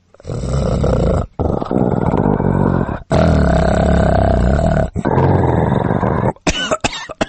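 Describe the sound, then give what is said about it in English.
A male dog named Duke, lying in a large pet crate by the front door at night, growls low and rough in several long, loud rumbling stretches separated by brief pauses, with a few shorter bursts trailing off at the end. “That night, after putting them in the crate and sitting back down, the male, Duke, started a rather low growl.”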